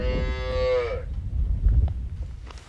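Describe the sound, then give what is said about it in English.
A single dairy cow in a hillside pasture on a small 45-cow organic dairy farm in Gays Mills, Wisconsin, lets out a long, harmonic moo lasting about a second, then outdoor rumble and faint rustling fill the rest, in open air. “You see the cows are over there on the next hill in the pasture, and you see the grass we have yet.”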